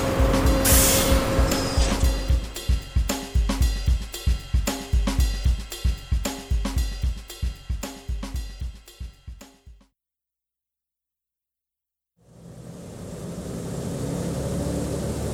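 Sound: bus arriving and driving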